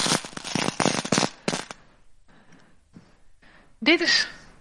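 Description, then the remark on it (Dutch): Small glass hearts clink and rattle together in a dense, bright burst of rapid clicks lasting under two seconds, followed by quiet faint sounds and then a voice speaking. “Ik heb geen stenen hartjes, maar ik heb wel iets anders gevonden. Dat zijn glazen hartjes.”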